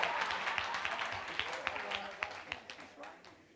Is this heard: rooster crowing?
no